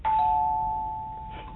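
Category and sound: household object, doorbell ringing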